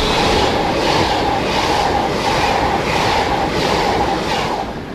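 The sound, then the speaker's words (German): A train roars loudly past through Brittnau-Wiken station, a small station of two modern glass waiting shelters and ticket machines, a dense continuous rush with rhythmic pulsing of wheels over rail joints, holding steady throughout with no one speaking. “Kommt dazu, dass immer wieder Zugzeuge durchbrätschen.”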